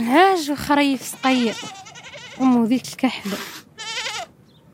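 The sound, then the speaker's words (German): Several sheep or goats bleat in quick succession, wavering calls with brief pauses between them, a small flock crowded together in pens built of scrap metal on a sand hill, kept by Sahrawi families, on a hot mid-March day of about 30 degrees. “Die meisten Familien hüten heute noch ein paar Schafe oder Ziegen.”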